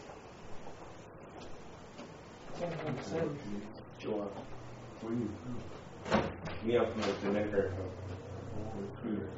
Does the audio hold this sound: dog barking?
no